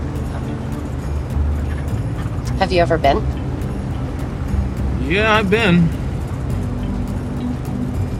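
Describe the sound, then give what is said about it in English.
A steady, low engine drone fills the inside of a moving taxi for the whole stretch as it pulls into the driveway of a large home decorated with Christmas lights, while two people briefly exchange a few words over the rumble. “The taxi pulls into the driveway of a large home, decorated with strings of Christmas lights.”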